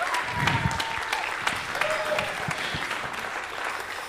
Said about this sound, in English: So we can clap for him and make him feel special.